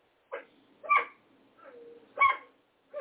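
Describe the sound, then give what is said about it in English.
A dog barks right next to a door in a series of sharp, bright yips and barks, roughly five bursts in three seconds with a brief whiny tone between them, no voices. “I can't have the barking right next to my door here.”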